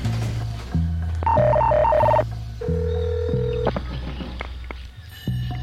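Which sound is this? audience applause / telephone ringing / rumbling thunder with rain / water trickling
telephone ringing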